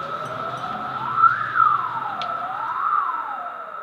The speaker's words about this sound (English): If I turn in a little noise here, we hear the whistling sound. That peak will stay the same